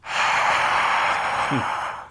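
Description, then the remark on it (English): A steady, breathy rushing roar imitating crowd noise, most likely a voice exhaling a 'hhhh' sound. It holds at an even level for about two seconds before cutting off, with no words spoken. “Here's my crowd noise.”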